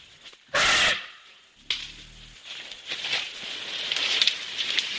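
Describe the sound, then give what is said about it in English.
Elephants, roughly 8 to 9 feet tall, crunching over the forest floor on the island of Borneo: irregular cracking and rustling of leaves and twigs, a loud burst early on, a brief low droning rumble, then steady crackly trampling. “The sound of elephants crunching over the forest floor on the island of Borneo.”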